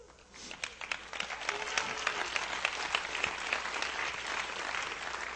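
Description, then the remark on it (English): An audience breaks into sustained applause at news of a woman's cancer being healed, many hands clapping in a dense, steady wash that swells quickly and holds for several seconds with no voices over it. “I appreciate that you would clap over something like that, but I was actually mad.”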